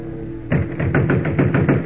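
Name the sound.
pounding on a door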